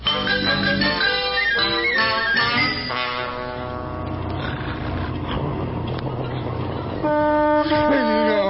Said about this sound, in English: What's that? Oh, it's just a truck passing by. Sounds like it's on the front lawn.